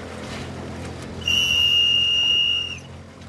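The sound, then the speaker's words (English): A single long, steady blast from a high-pitched whistle, blown to call a marathon swimmer in for a food and water break, loud and clear for about a second and a half, over a low rumbling background like an engine or water. “I'm going to call her in with the whistle.”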